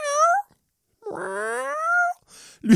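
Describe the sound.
A person imitates a cat with two clear meows, a short upward one and then a longer, drawn-out one, followed by a breathy exhale and a brief low sound at the end.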